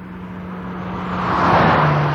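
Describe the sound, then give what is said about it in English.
A Mercedes-Benz test car speeds past on the automaker's private test track in Stuttgart. Its engine hum swells steadily louder into a rushing roar with a droning tonal whine, and no voices are present. “This is the Mercedes-Benz test track in Stuttgart, the automaker's own private speedway, with a lot of lean, mean, sleek-looking test cars ripping around the fast turns and straightaways.”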